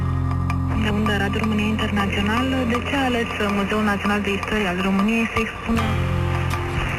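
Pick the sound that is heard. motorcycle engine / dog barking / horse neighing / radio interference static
radio interference static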